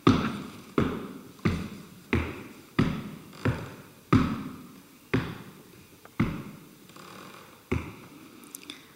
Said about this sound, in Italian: Mentre vado scendendo le scale del metrò, mi affeziono a questi piccoli tonfi delle mie scarpe scure.